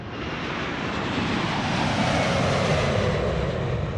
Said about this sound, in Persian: در این سفر، هنگامی که هواپیما اوج گرفت